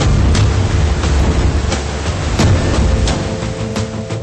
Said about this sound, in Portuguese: Nesta região da Ilha Norte, os subterrâneos fervem. O geyser Pohutu entra em erupção até 20 vezes ao dia.